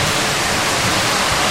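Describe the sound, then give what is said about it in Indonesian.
Steady, loud rain hisses continuously with a dense, even wash of noise and no breaks, no voices over it. “Oh, di sana kan ada hujan.”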